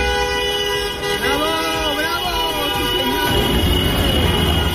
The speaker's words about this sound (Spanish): Los han recibido haciendo sonar las bocinas en esa caravana larguísima de cientos de taxistas madrileños que han traído hasta Madrid a 135 refugiados de Ucrania.